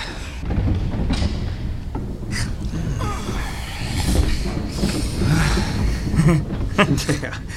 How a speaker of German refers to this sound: Um die Ecke muss der Paternoster sein. Man kann ihn schon hören.